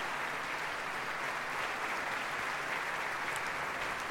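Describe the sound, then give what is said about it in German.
Sustained applause from a large concert audience welcoming the soloists and the conductor as they come out, with the orchestra standing; a dense, steady wash of clapping that holds evenly throughout without pause, fairly loud. “Und die Solisten werden mit einem großen Applaus begrüßt.”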